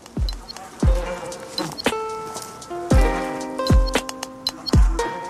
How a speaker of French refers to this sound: Entrer au cœur d'une ruche et écouter le rythme de vie des abeilles